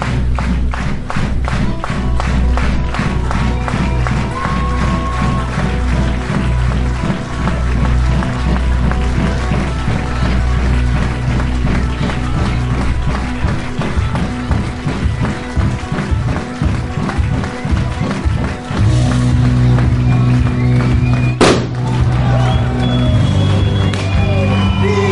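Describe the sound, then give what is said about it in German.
A large stadium crowd cheers loudly and continuously as the home team in white jerseys runs in at a GFL football game in Ingolstadt on 1 May 2017. The dense roar is punctuated by sharp bangs of salute shots fired by the Ingolstadt marksmen and by rhythmic claps, with no clear speech. “Begleitet unter den Böllerschüssen der Ingolstädter Schützen läuft die heimische Mannschaft ein in den weißen Trikots.”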